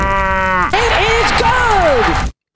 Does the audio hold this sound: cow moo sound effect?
yes